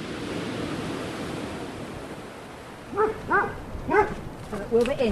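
Two dogs, Wilbur and Dodie, bark outdoors as they step out of an old farmhouse on the dry side of a new coastline, in a quick series of about five sharp barks. The barking starts after a few seconds of steady wind-like background noise that continues underneath.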